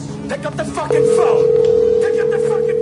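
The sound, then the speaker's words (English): Brief muffled talking gives way to a steady, unbroken telephone tone that hums loudly and evenly for a couple of seconds, like a line ringing on the other end. “Pick up the fucking phone!”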